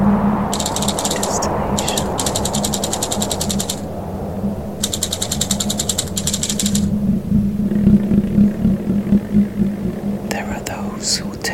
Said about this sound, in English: It's a bit like an old display at the train station, changing the destination.